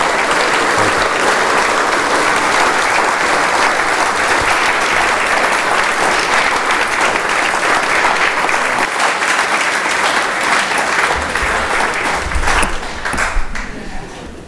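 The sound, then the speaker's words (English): A crowd applauds a speaker after he tells a story, steadily for the whole stretch, a dense, even wash of many hands clapping at a constant loud level, with a few louder claps and faint low rumbles near the end. “If you would, give him one more round.”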